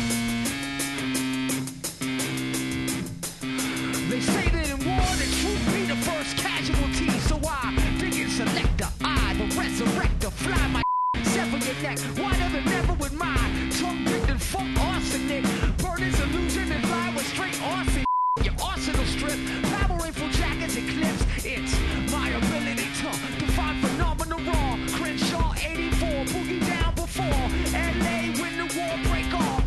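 A loud, dense rock track plays throughout, interrupted twice by brief, steady mid-pitched censor beeps that blot out the vocals for a moment each.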